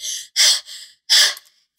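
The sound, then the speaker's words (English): A voice imitates the heavy panting of someone winded from running down the street, two sharp breathy gasps alternating with softer exhales, fairly loud, with no words spoken. “So you eventually get in and you catch up to Thea as she is winded and out of breath running down the street.”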